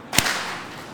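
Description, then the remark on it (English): One sharp, loud clap cracks out early, then trails off into a fading wash of sound. The audience, asked by the speaker to clap to show how sound is made, claps together as a single crisp burst, and no one speaks. “You clap, all of you clap.”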